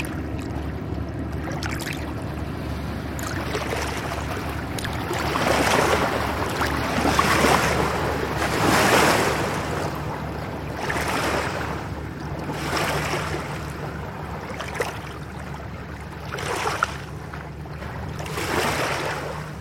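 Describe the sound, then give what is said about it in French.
A very flat barge, seemingly carrying sand, passes on the water: a low, steady engine drone with rhythmic swells of water washing and lapping, wind rushing faintly, and no voices. “Il y a un bateau là qui passe, une péniche, qui a l'air de transporter du sable, vraiment très plate.”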